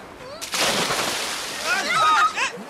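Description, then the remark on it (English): A person jumps off a boat into the sea with a big, heavy splash, then water churns and sloshes in strong waves for a couple of seconds while indistinct voices shout over it. “He's jumped off the boat.”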